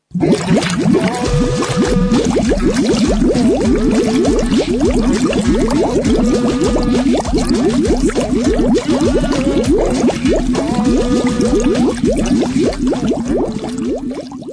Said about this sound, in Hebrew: תשמעו, נכנס פה גשם, והשירים פה נרסו לגמרי, תזהו את השיר הבא עם המים.